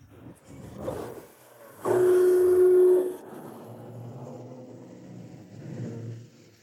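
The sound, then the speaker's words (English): A blue garbage truck idles with a low rumble, then a loud, steady hydraulic whine rises for about a second as it lifts a blue garbage container holding trash bags of non-recyclable waste, before the engine rumble carries on. “The blue truck is lifting the blue garbage container.”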